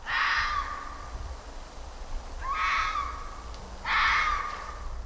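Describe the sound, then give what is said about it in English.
A fox cries out three times, each a harsh, drawn-out scream lasting about a second, spaced a second or so apart, loud over a low background rumble. “Have you ever thought a fox cry sounded like a woman's scream?”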